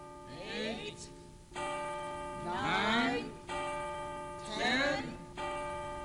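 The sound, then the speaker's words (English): A tower clock bell strikes the hour of 11, three slow, evenly spaced strikes heard, each ringing out with a long resonant hum, while voices rise and fall over the chimes. “When the tower clock strikes 11, we're all gonna march right into Potter's bank.”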